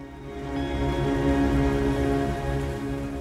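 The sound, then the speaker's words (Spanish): Steady rain falls without a break, a continuous even hiss at moderate loudness that holds through the whole moment, with no voices. “Pero la lluvia no cesaba”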